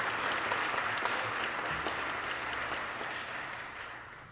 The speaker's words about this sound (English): And please give another round of applause to that wonderful lady,